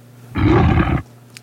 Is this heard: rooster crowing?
no